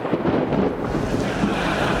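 rain

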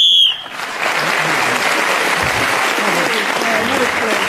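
game show whistle blown

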